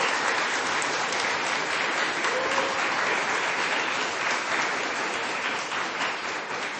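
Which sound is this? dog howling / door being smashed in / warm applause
warm applause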